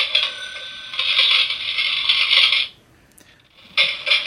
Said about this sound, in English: This one is Cash Register.